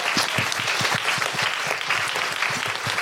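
A crowd claps steadily and loudly, many hands overlapping into a dense, sustained wash of applause with sharp individual claps poking through, no voices standing out.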